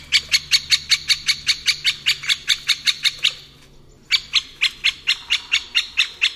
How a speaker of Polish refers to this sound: Posłuchajmy zatem dzięcioła dużego.